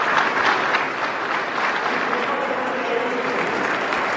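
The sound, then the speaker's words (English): Sustained crowd applause at a Medal of Honor ceremony, a dense, steady wash of many hands clapping at an even, fairly loud level throughout, with a faint murmur of voices mixed in. “He walks off, he's clapping.”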